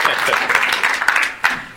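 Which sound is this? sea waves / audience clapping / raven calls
audience clapping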